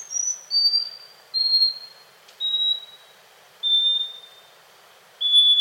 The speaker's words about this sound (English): But by analyzing song recordings, researchers found that scaly-breasted wrens can precisely measure out pauses and whistle just in time, even as the pauses increase to several seconds.